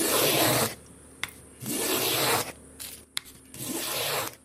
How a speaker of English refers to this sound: planes wood for a guitar in his workshop in the bush near the town of Bruderstroom in South Africa's northwest province.